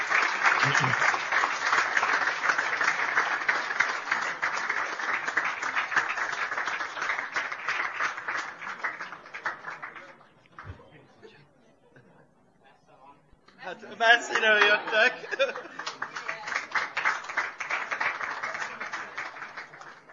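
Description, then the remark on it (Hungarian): A crowd applauds steadily for about ten seconds as university chaplaincies are called up, beginning with the Brassó Catholic University Chaplaincy, the clapping fading to a brief lull before a second loud burst of applause rises again, with a voice speaking briefly in between. “Nagy tapssal!”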